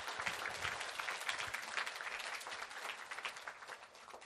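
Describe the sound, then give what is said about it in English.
A church audience claps steadily to thank and praise God on the last Sunday of the year, a dense, sustained wash of applause that holds at an even level throughout without anyone speaking. “To that Trinity God, let's thank and praise God with applause.”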